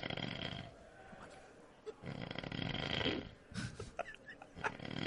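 A person snores loudly and close by, with two long rasping inhalations separated by a brief pause, followed by a few snorting, sputtering breaths.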